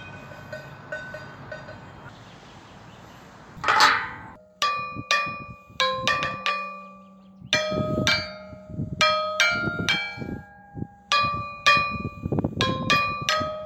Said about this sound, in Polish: Dźwięk dzwonu.